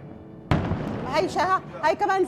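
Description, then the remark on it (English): A single dull boom from an explosion hits suddenly, its low rumble lingering while people begin talking. “There was another explosion. That one hit some place moments ago and exploded.”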